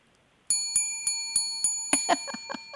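bell ringing

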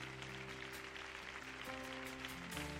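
audience applause

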